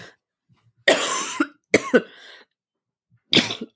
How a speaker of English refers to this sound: Oh my God, she just got sick in your mouth. No, I burped and coughed at the same time. Apologies.